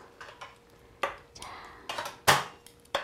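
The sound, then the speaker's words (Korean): Chopsticks click and tap against a plate as pieces of braised radish (mujorim) are placed on it, several light, irregular clatters with short quiet gaps between them. “자, 그만하고 한번 담아볼까요? 자, 접시에 어떤 모양으로 담아야 예쁘게 담을 수 있을까요?”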